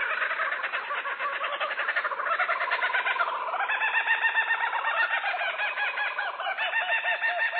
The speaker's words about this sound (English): This oddly familiar, crazed laughter belongs to the laughing kookaburra of Australia. Its exotic call has been a Hollywood standard for decades, that unseen creature lurking in the depths of the African jungle, or any jungle for that matter